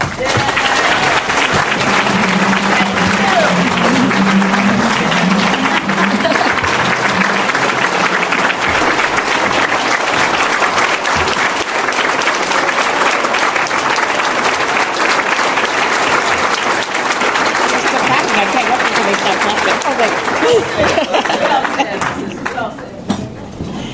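Sustained, loud applause from a large crowd after a speech about making Chicago a world-class city, a dense steady wash of clapping that holds for the full stretch before thinning slightly at the very end.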